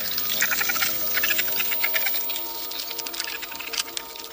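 Ants on a leaf stridulating by rubbing two abdominal segments against each other make a continuous high-pitched, scratchy crackle of rapid tiny clicks that swells and fades slightly over several seconds, with no voices present.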